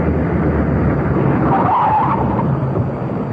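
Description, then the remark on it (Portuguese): A car brakes hard, its tires skidding and squealing against the road as it slows to a stop, loud amid a steady engine rumble. “Pare o carro.”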